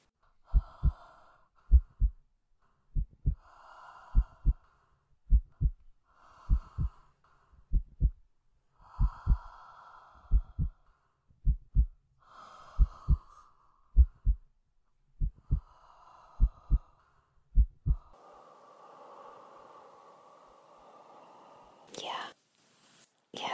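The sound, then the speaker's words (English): A steady human heartbeat, low paired lub-dub thumps repeating evenly for about eighteen seconds, with soft breathy whispering sounds over them, then quiet breathing and a brief rustle at the end. “My heart, it's beating very steadily now. Can you hear it?”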